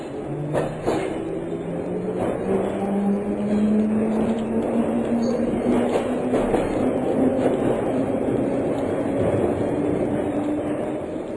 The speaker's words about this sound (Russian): Еще мгновение, и поезд тронулся.